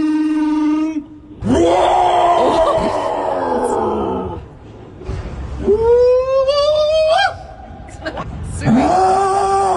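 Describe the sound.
People imitate Bigfoot calls at the official Bigfoot festival in Ohio in October, with long, loud, wavering howls and wails, several drawn-out vocal cries rising and falling in pitch, one after another with brief gaps between them.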